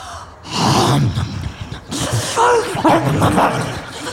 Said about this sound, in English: She scarfed those down like she was starving.